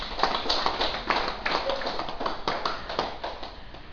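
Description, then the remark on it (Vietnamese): An audience at a Buddhist temple claps steadily for several seconds for a very young nun, a dense wash of many overlapping hand claps at a fairly even level with no voices on top. “Một hình ảnh đẹp nữa mà cũng xin đại chúng vỗ tay cho cô, một sư cô rất là trẻ ở chùa Dược Sư mình”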